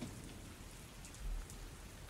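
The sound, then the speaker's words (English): Steady, heavy rain pours down in a dense, continuous hiss, with scattered brighter drops pattering on a surface. No voices, just the constant rush of a downpour during a storm. “Yeah, the storm woke me up too. It sounds like it's really coming down out there.”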